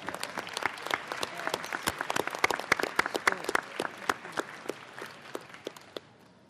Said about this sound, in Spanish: También en esa situación quiero reconocer y otra vez agradecer a los participantes en este primer diálogo, y quiero pedir por ello un voto de aplauso para todos los que han hecho este esfuerzo: gobiernos, pueblos indígenas, organizaciones.